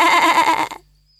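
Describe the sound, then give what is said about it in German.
A single loud sheep bleat with a quavering, wobbling tone that lasts under a second before cutting off into silence. “Ich bin ein Schaf. Mäh.”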